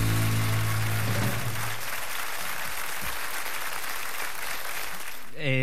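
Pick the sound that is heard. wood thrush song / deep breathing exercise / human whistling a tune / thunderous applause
thunderous applause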